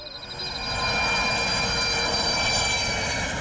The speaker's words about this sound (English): These cargo airplanes flying from Europe to Africa, they were taking fish fillets from Lake Victoria to Europe, which is very high protein, beautiful, very good organic food from a place where people are starving.